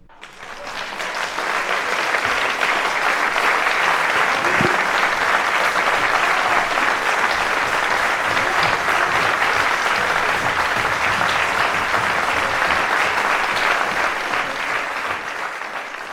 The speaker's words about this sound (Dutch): Applaus voor de doctorandus.